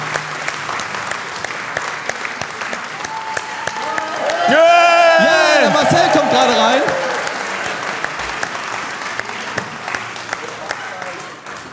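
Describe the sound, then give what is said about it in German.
A crowd applauds steadily throughout for a correct answer, a dense, sustained clatter of many hands clapping at once, while a voice speaks briefly over the middle of it. “Richtig, dafür einen Applaus.”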